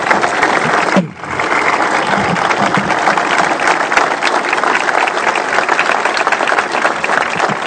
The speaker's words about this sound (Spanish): Y por último también decirle muy buenos días a quienes son nuestros héroes, a los veteranos de Malvinas, por quien pido un fuerte aplauso en este día tan especial.